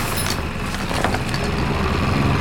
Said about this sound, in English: That will give Kai some time to drive the boat back to the shore.